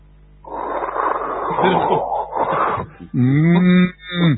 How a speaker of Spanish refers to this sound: La isla es muy silenciosa, atención, ¿eh? Sí, nos había dicho. Aparte del chiflido del viento, que es espantoso, sí, y el mugido de alguna vaca en la isla principal, no hay mucho más ruido.